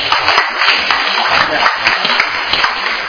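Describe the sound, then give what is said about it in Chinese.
A group applauds steadily for about three seconds for a participant praised for role-play acting, a dense, even patter of many hands clapping at once with no clear pauses. “站起来，大家拍手一下。”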